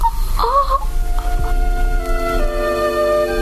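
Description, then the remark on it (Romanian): A donkey lying down on its side gives a short, moaning yawn that swoops up and down, then trails off into a steady, humming drone of held tones. There is no talking. “Astăzi, pisica doarme în cojocul baciului, iar câinele se încolăcește la burta măgarului, care se culcă pe o parte și cască și el.”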